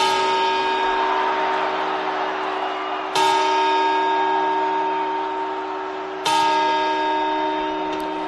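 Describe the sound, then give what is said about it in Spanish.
Three resonant bell strikes from a clock tower, evenly spaced about three seconds apart, each ringing out with a long, humming decay that overlaps the next; these are the quarter chimes rung before the midnight bells. No voices are heard. “Así hasta 12, ya sabes que en casa te explicará, no, que estos son los cuartos.”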